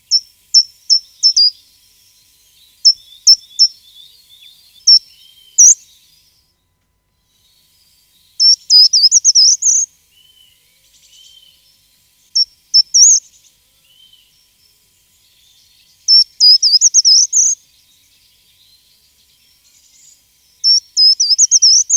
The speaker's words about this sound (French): c'est le grimpereau des jardins. Un petit oiseau qui grimpe contre les troncs avec un bec finement arqué. Un oiseau assez terne au niveau du plumage, mais quand même un très bel oiseau. Et il a un chant aussi assez caractéristique.